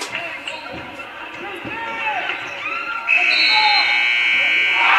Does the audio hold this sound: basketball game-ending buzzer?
yes